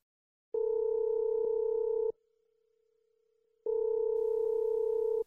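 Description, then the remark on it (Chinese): A telephone calling tone on the line while phoning the Jingzhiyuan water delivery company to order water: two long, steady electronic beeps, each about a second and a half, separated by a pause. The tone is clear, with no voices. “哎，送水的电话是多少来着？”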